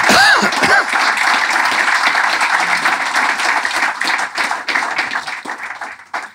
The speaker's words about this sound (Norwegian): En stor applaus til Tore Sunde Rasmussen.